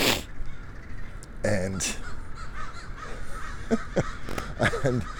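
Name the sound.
crows cawing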